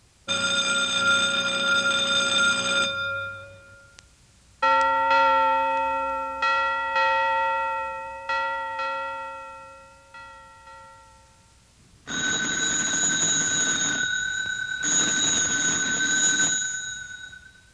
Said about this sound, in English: Did you think of how they are alike? They are all bells, aren't they? Different bells, but all are bells. You might say they are all in the bell sound family.